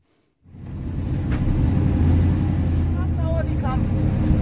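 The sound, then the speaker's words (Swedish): A car's engine roars loudly and continuously after a brief silence, a dense, steady rumble of a car driven at 150 km per hour over high sand dunes, with a faint voice briefly audible beneath it. “Bredvid dig sitter en förare som kör i 150 km i timmen över höga sanddyner.”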